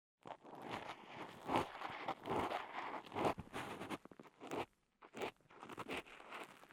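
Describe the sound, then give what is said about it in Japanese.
Scratchy crackling and rustling as earwax that has come out to the entrance of the ear canal is worked loose during ear cleaning, in irregular bursts with brief pauses, heard alone without any talking. “このポリポリとした音。”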